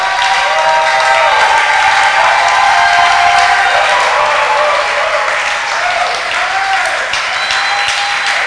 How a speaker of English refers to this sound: Oh, come on, clap. Ah, come on. Come on. Let it be protracted clapping. Let it be extended rejoicing.